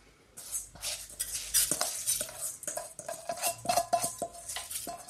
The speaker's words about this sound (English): So now I'm going to pop my rice into my saucepan.